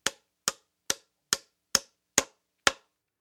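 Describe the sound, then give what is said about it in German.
Hammering loudly in a workshop: seven sharp, bright metallic strikes land in a steady rhythm about half a second apart, each ringing briefly before the next blow, with no voices. “Hansi hämmert laut in seiner Werkstatt.”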